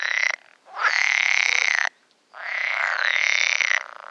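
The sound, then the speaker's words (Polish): Pool frog croaking in long, loud, rattling bursts, three calls separated by brief pauses, with no other voices present. “Taki rechot jeszcze teraz można usłyszeć na początku lipca, wystarczy przejść się nad jakąś wodę wieczorem.”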